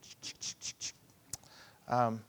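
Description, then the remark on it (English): A quick run of five soft, papery swishes from pages of a paper Bible being flipped to Luke 23, fairly quiet, followed by a sharp click and then a man starting to speak. “By the way, I love paper Bibles.”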